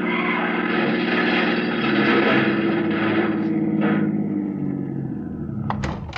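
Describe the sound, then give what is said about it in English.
A car engine roars steadily as the vehicle swerves around another car blocking the street, its drone rising and easing slightly, with a couple of sharp knocks near the end. “He's trying to go around Asher's car.”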